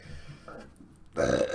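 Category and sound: human body sound, burp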